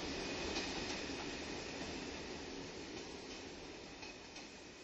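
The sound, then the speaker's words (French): A train rumbles along the tracks with a steady, dense roar of wheels and carriages, loud, easing slightly in volume as it moves on. No voices. “Sur le quai fauve et noir rempli de moiteurs sales, les âges se défont au rythme aigu des trains.”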